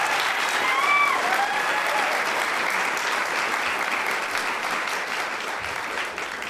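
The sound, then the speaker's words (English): A sustained round of audience applause for the storytellers at the Whether or Not Galley Table Story Show, dense steady clapping from a crowd that stays loud throughout, with a few faint whistles or cheers near the start. “Let's give another round of applause to our storytellers.”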